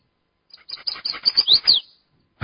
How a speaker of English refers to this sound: See, here we have a chestnut-sided warbler. Chestnut-sided warbler. Okay, this guy's got some really interesting things going on. Check this out.